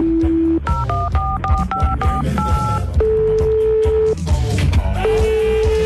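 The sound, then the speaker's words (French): A rapid run of telephone keypad dialing tones as someone phones from a studio, short paired beeps one after another, followed by a few longer steady tones, all over a busy music bed. “Je téléphone, vite.”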